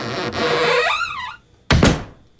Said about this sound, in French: Ça, ce son de porte-là, là, je l'avais sur mon disque